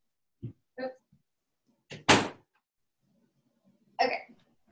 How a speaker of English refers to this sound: Just a second. I got to shut this door because it's loud.